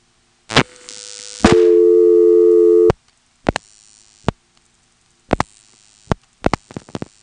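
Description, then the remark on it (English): A telephone line hums with a steady tone for a moment. Then the director switch of an old mechanical exchange in Edenton, North Carolina, clicks and pulses in irregular bursts of sharp relay snaps after the office's own prefix, 482, is dialed on an intra-office call. “That little noise there was the director deciding what to do. That makes a pulsing noise.”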